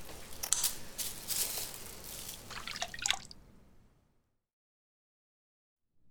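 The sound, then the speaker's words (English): Gauze being dipped in water and wrung out while making Halloween masks: a few seconds of splashy trickles and drips in quick bursts, then the sound stops and quiet follows. “You can help us cut the gauze up and put it in water.”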